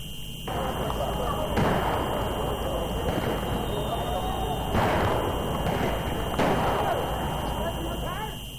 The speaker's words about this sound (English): A crowd of young people hurled petrol bombs and stones at police, who in turn fired water cannons to disperse the angry protesters.